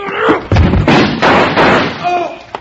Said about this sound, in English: Hit the door hard enough to break the lock. Then jump back out of the way, Jingles.